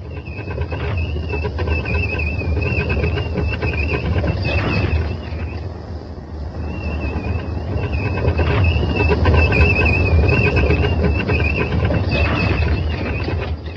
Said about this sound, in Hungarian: Annál is inkább, mert íme a felvonó híd leereszkedett.